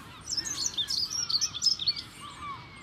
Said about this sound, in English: Nope, sorry, that was just wishful thinking. We've got lots of seagulls, but no beach. Not that kind of beach anyway.